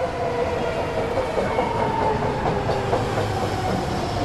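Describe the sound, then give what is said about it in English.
A packed BART commuter train rumbles steadily along the rails, with a continuous low roar and faint rhythmic clatter, with no talking. “BART train is very packed.”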